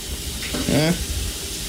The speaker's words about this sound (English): while she washes up some dishes.